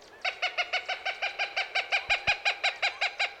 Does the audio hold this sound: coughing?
no